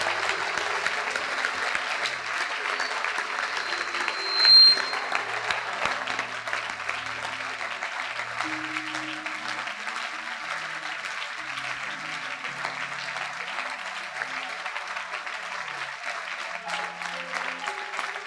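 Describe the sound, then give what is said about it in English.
Sustained applause from a large group fills the whole stretch, a dense, steady wash of many hands clapping at even loudness, with a brief louder burst early on and a faint murmur beneath. “As I clap your hands.”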